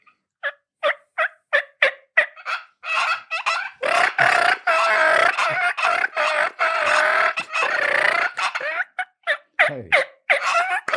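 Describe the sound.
A turkey call plays a run of sharp, evenly spaced clucks, rolls into several seconds of loud, rattling purring, then returns to quick clucks. The sounds are clear, with no talking.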